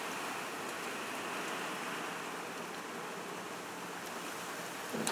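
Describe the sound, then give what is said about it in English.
A heavy rain and hailstorm pours down outside at 7:30, in a dense, steady hiss that stays loud and even throughout, with a brief sharper clatter near the end and no voices. “That's a rain and hailstorm, not the band.”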